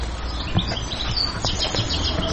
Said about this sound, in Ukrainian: Тиша, спокій. Чуєте, пташки цвірінкують?